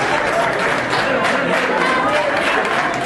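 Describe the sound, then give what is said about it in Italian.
Sustained applause from a large crowd welcoming Spanish leader Pedro Sánchez at the FAO headquarters: a dense, steady wash of clapping mixed with crowd noise and voices, staying loud throughout without pause. “Ma gli applausi con cui Sanchez è stato accolto nella sede della FAO fanno capire chi è il vero favorito.”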